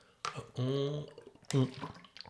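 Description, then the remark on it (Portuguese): A person gulping a sip of water: a couple of wet, throaty swallows with a sloppy, voiced quality, separated by a short pause. “A Rita diz que eu pareço um cão a beber água.”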